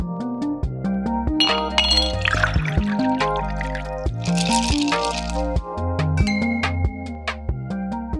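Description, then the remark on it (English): Bright glassy clinks ring out repeatedly over a steady musical backdrop, with two busier bursts of chiming clatter, like glasses knocking together in a toast. No one speaks. “Cheers to our guest today”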